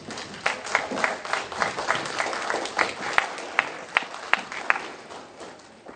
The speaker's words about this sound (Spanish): Recibámoslos con un aplauso.